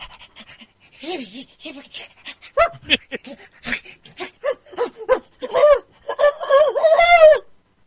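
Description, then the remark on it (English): A dog pants rapidly and breathily in short bursts, mixed with high, wavering whimpers that grow louder and more insistent toward the end. “wouldn't have been wild if the dog was actually enjoying it”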